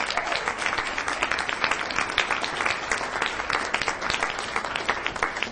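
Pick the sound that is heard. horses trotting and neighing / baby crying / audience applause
audience applause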